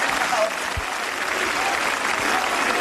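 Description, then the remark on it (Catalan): Steady, dense applause from a large audience for Carles Puigdemont, a continuous wash of clapping at an even loudness throughout with no voices rising above it. “Els aplaudiments ara a Carles Puigdemont.”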